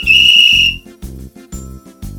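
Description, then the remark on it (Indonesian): A loud, shrill whistle blast rings out for nearly a second at the start of a children's relay race, followed by a few short, evenly spaced bursts of lower, buzzing sound. “Suara peluit dibunyikan.”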